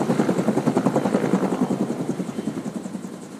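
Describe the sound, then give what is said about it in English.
Helicopter rotor thumping in a steady rapid pulse, loud at first and gradually fading as it flies away after releasing a load of gravel from its hopper for a work crew, with no voices present. “With the helicopter clear, the crew has just a few short minutes to rake the gravel into place before the next load arrives.”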